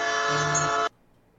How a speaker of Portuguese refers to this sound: trem passando. Estamos ouvindo. Estamos ouvindo o trem aí.